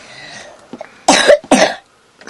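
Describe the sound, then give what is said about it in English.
Two harsh, loud coughs in quick succession, following a soft low murmur of background noise. “Thank you for interrupting me with that cough.”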